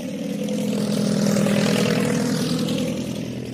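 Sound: propeller airplane engine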